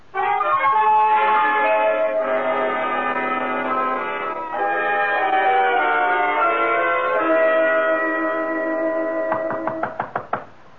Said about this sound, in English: Who knocks at my gate? Enter.